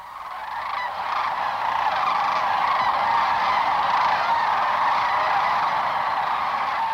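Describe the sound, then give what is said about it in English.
A huge flock of cranes, up to about 10,000 birds, lifting off or gathering over a river at sunrise and calling all at once: a dense, continuous din of overlapping honking cries that swells in the first second and then holds steady and loud, with no voices. “Yeah, we'll often see a flock of up to 10,000 cranes at a time lifting off the river at sunrise or gathering over the river”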